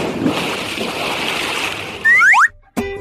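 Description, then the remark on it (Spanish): Steady rush of running water as hands are washed with soap and water under a tap fills the first two seconds, then three quick rising boing-like chirps, a brief silence, and a short tonal tail. “que cantó especialmente para Clásicos Desatados mientras se lavaba las manos con agua y jabón, el feliz cumpleaños para nuestra sección Fuera Bicho, dos veces”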